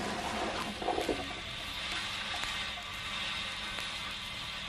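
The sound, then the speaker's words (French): A neighbour's toilet flushing in the flat upstairs, heard as a steady, muffled rush of water that stays fairly quiet and even throughout, with no voices. “Il s'infiltre à tout moment, jusqu'au plus profond de nos maisons, depuis les trompes des chasses d'eau du voisin d'au-dessus.”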